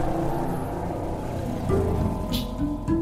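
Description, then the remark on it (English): Steady, dense street traffic of tour buses, taxis and scooters in the neighborhood of La Sagrada Familia in Barcelona, Spain, rumbles throughout, with engines droning and vehicles passing in a continuous low roar, and no voices. “La Sagrada Familia, designed by Antoni Gaudí, draws so many people to see it that the neighborhood is congested with tour buses and taxis and scooters.”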